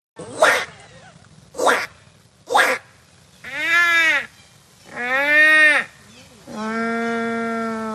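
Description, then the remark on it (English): Students imitate native Australian bird calls at the Bornda Bird Olympics, a bird-calling competition: three short, harsh squawks, then three longer, wavering hoot-like cries, the last held steady. All are loud, with no other talk. “challenging students to do their best rendition of a native bird call”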